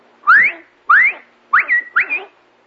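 A loud human whistle calling someone to come: four sharp notes, the first two quick upward sweeps, the last two rising then holding a sustained tone, clear with no talking.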